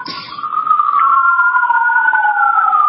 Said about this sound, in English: I'm waiting for the sirens to get by. Okay. That was very dramatic. That doesn't get to happen very often.